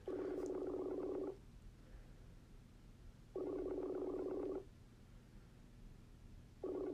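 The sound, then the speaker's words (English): An odd, warbling phone ringback tone on a speakerphone call that goes unanswered repeats in long buzzy bursts of over a second, separated by roughly two-second pauses, with a murky, underwater-like quality and no voices. “Oh, no, that's just ringing. That's a weird ring back.”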